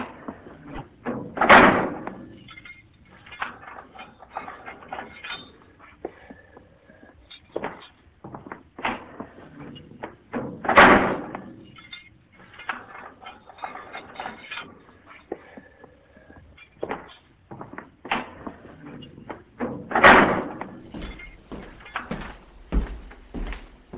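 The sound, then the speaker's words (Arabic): Heavy metal prison cell doors are unbolted and swung open by a sergeant and left ajar, three loud clanging bangs roughly ten seconds apart, with rattling, clicking and shuffling footsteps between them, with no talking. “افتح الزنازين يا شويش، خلي كل بيبان الزنازين مواربة.”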